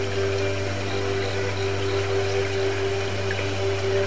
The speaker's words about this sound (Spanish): Oyes como una lluvia de fondo que diluye, diluye y diluye y diluye más y más cualquier pequeña sensación de molestias.